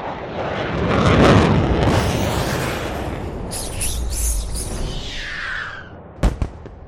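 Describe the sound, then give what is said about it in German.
An air-to-air missile explodes in a blue, glittering cloud amid a loud, rushing jet roar that swells and fades, followed near the end by two sharp blasts. “Die Luft-Luft-Rakete explodierte in einer blau glitzernden Wolke.”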